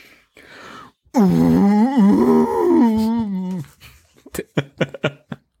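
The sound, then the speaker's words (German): A person vocally imitates a car engine sputtering as the ignition key is turned for the fifth time, with a loud, drawn-out, wavering trumpet-like wail resembling an elephant cow's mating call, followed by a burst of short, choppy sputters. “Als er den Zündschlüssel zum fünften Mal umdrehte, komm schon, Baby, schießt der Motor ein Geräusch aus, das sich wie der Brunftschrei einer Elefantenkuh anhörte.”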